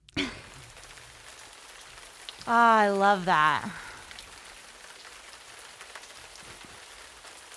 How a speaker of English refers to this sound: Can we do it right now with the sound effect of hard rain?